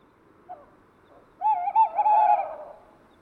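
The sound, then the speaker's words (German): A male tawny owl perched in a tree calls while preening its feathers: a brief soft hoot, then after a pause a long, wavering, quavering hoot that rises and trembles before fading. The call is clear against an otherwise quiet background. “Auf dem Baum weiter rechts in der Szene hockt ein Waldkauz.”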